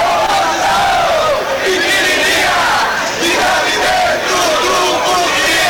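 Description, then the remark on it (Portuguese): A large crowd at a political demonstration with a microphone and a sound truck shouts and yells loudly and continuously, many voices overlapping in a dense, sustained, energetic roar. “Substitui, na verdade, um diálogo com você, né, por uma gritaria ali com um microfone, um carro de som na mão.”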